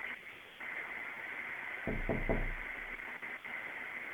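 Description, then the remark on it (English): Three quick, evenly spaced knocks on a door, sounding over a steady background hiss, with no voices. “Someone's at the door.”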